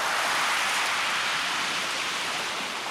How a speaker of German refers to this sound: Meterhohe Wellen branden an den langen, schneeweißen Strand von Watamu.